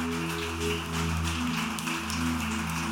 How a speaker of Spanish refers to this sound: De aplaudir el nombre del Santo esta mañana. Aleluya.